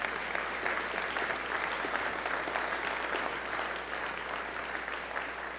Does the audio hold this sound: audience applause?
yes